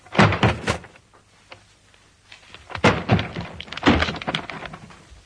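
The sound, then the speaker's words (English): Heavy, forceful thuds strike a wooden door with 'Alex' painted on it in three separate bursts, the last one a loud, crashing impact, as the door is broken down. Nobody speaks. “Look out, I'm going to break the door down.”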